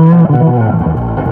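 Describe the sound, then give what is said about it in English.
A loud electric guitar played on the neck pickup with a distortion pedal, a clean tone layered underneath and a thick, deep analog bass layer beneath it, sustained chords blending into a heavy, full low end with no voices present. “you get the deep analog giant low end.”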